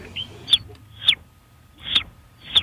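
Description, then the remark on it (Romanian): A child's voice imitates a baby squirrel with four sharp, high-pitched squeaks, spaced about half a second apart, with no talking in between. “Păi și cum face puiul de veveriță?”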